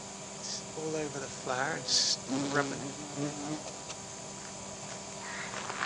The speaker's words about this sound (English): So my mum has this, I guess it's an old feed trough thing, full of this incredible bush of yellow flowers, and it always attracts loads of bumblebees. I'll just see if we can hear a bumblebee.